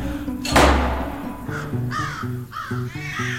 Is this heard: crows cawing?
yes